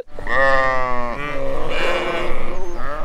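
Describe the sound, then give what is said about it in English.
A sheep bleats loudly and alone, a long wavering baa that breaks into a second, rougher, quavering bleat lasting a few seconds. “Oh, the sound of the sheep means we made a little mistake.”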